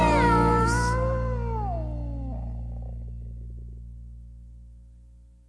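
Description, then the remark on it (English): A single drawn-out cat meow, loud, its pitch bending and sliding downward before trailing off into a low, fading hum. No one speaks. “Hey, cat.”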